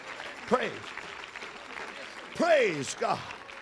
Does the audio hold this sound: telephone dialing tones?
no